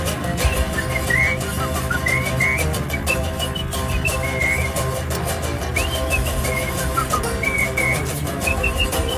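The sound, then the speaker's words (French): Short, bright whistled notes dart in and out over a full, steady band backing, scattered phrases rather than a continuous tune, never standing alone from the music. “Comme mon aéroplane, allez, sortez, sortez, ou alors sifflez.”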